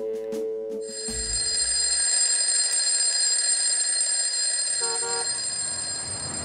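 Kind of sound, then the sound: signal or alarm, bell ringing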